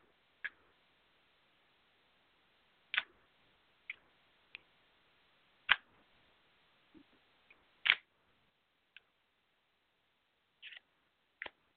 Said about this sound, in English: I'm just. Shuffling some cards for you, see what comes out.